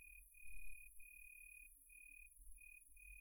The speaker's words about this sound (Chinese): 蝉鸣